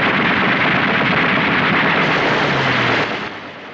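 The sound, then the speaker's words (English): A loud, dense roar of fuel barrels exploding mixed with rapid anti-aircraft gunfire at an airbase fills the whole stretch, crackling and booming without pause before tapering off slightly near the end. “Anti-aircraft gunners fire on the enemy craft. Scott and Evans dive under an ambulance as technicians flee towards the airbase. Some fuel barrels explode.”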